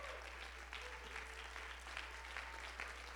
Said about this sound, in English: Clap your hands.